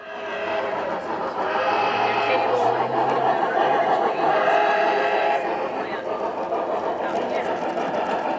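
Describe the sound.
A garden railroad model train runs with a steady, busy whirring clatter that holds at an even level throughout, while murmuring voices carry on underneath.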